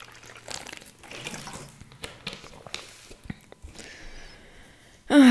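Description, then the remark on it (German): Wet sounds of someone drinking water: sloshing and slurping sips over several seconds, ending in a brief louder vocal burst. “Nächstes Thema, erstmal muss ich ein Stück Wasser trinken.”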